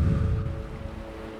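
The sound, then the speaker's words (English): Ocean waves form a steady, low rushing wash that fills the brief stretch, with faint sustained tones humming softly above it and no voices. “Be one with the waves that you hear and visualize your happy place.”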